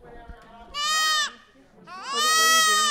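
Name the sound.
baby goats bleating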